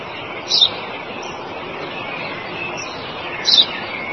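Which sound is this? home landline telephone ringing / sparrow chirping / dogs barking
sparrow chirping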